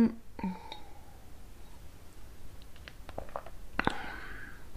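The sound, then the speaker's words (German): Someone takes a sip of water: a few soft mouth clicks and quiet gulping noises, with a brief cluster of swallowing sounds near the end, all faint and without any talking. “Jetzt muss ich ganz kurz einen Schluck Wasser nehmen, weil ich merke, der Husten reizt mich da im Hals.”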